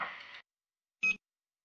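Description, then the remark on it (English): A short, loud electronic answering machine beep, a single high tone lasting a fraction of a second, preceded by a brief burst of hissy mechanical noise, then silence. “so leave a message after the beep.”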